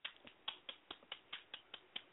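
An applause sound effect: sharp, crisp claps repeat in a steady, even rhythm, about eleven in quick succession with no voices. It sounds more like a single pair of hands than a large crowd.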